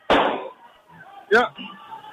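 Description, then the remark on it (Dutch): A loud, sharp balloon pop with a short fading tail, followed about a second later by a second sharp burst, as balloons pop one after another. Faint voices murmur in the background. “De ene naar de andere knalt hier. Ah, je hoort het.”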